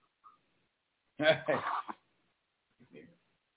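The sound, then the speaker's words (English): A single sharp, voiced sneeze bursts out after a brief faint sound, loud and lasting under a second, followed by a quieter short noise a moment later. “Bless you”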